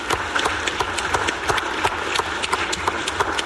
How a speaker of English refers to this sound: Let's give the budget chairman and the budget committee a round of applause.